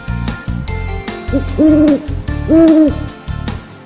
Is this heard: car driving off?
no